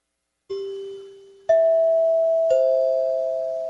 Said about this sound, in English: And most of you know what that is. That's NBC.